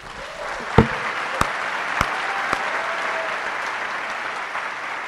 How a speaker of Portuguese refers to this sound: Hoje é dia dos pais. Vamos dar um aplauso para o nosso pai, vamos.